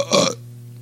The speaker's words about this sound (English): about to burp.